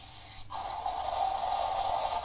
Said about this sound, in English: Is that … snoring? Yeah. Yeah? … snoring. And snoring.